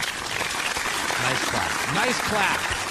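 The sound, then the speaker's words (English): A crowd applauds steadily and loudly for a few seconds, dense clapping filling the whole stretch, with a few voices calling out over it. “Nice clap.”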